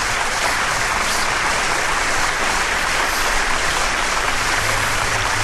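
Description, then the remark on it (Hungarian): An audience applauds to welcome the winning band, a dense and loud wash of clapping hands that stays even throughout with no voices standing out. “El kell mondanom még, hogy 390 másodperccel a … nyert, és őket hívjuk meg, mégpedig, jaj, ha baromi jó nagy tapsasz, igye, igye.”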